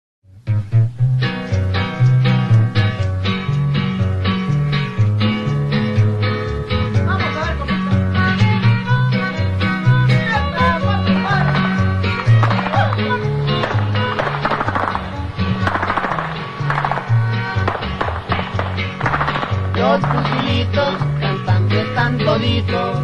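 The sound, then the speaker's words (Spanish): A lively song by a band plays continuously from a clandestinely circulated, never officially recorded cassette, with fast strummed rhythm, a bouncing bass line and singing voices over it, loud and steady throughout with a slightly lo-fi, tape-like quality. “Solo se le conoce un cassette que circuló de forma clandestina. Escuchemos … de ….”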